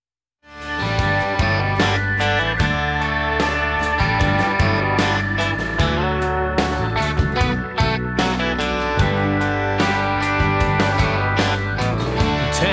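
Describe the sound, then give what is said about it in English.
A full band song plays loudly and steadily, with strong bass, sustained harmonic tones and regular percussive hits driving an upbeat rhythm throughout, no speaking voice over it. “I'm going to play another quick song here”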